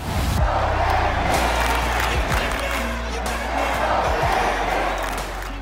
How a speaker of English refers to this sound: they came to Yankee Stadium, they heard Yankee fans cheering, and they're like, I like the sound of this.